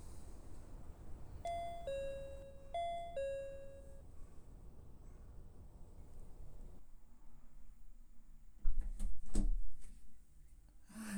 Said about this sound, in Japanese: 地図見るとこの辺りなんですが、どこだろう、ここかな。よいしょ。では失礼してインターホンしますね。